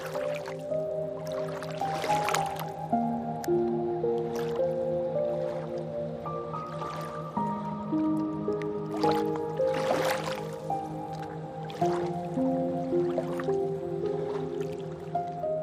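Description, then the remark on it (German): Gentle river water lapping and dripping, with scattered soft splashes and drips over a calm, steady bed of sustained musical tones; unhurried, with no voices. “Du spürst das buschige, warme Fell des großen Nagers neben dir und das sanfte Schaukeln des Wassers.”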